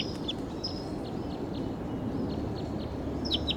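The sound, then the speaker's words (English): A wild bird calls loudly from some distance, short high chirps and whistles recurring every half second or so over a steady low rumble of outdoor background noise. “Wild bird calling loud in the distance, pointed in the direction of the wild bird.”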